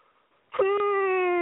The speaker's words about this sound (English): Yawn.